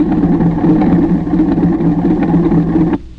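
small plane engine

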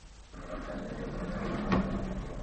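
concealed door opening

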